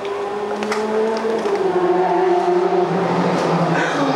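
A motorcycle engine roars steadily, its droning tone rising and falling slightly as it speeds past, with a faint rushing hiss of traffic behind it.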